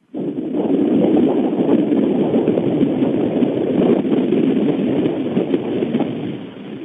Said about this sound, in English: And with that, I'd like to turn the phone that I'm on towards the great Grand Pacific Ocean and let you hear a little bit of the flow for just a moment before we close the show.